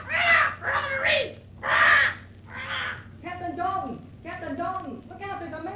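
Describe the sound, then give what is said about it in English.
A bird in a ship's cabin squawks loudly, four harsh raspy calls in quick succession, then a run of shorter, more chattering squawks that continue to the end. “Drat that bird.”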